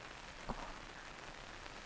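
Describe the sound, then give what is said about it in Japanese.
Soft, steady rain falls throughout in a town, a constant gentle hiss at low volume, with one brief, slightly louder drop or patter early on. No voices are heard. “何せこの町にはずっと雨が降っているから。”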